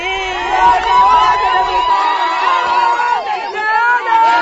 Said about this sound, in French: Cris de joie et danse accompagnent la cueillette des tomates, oignons, ciboulettes, aubergines, gombo et choux. Femmes et hommes, jeunes et personnes âgées, tous participent à cette activité qui couronne plusieurs mois de travail acharné.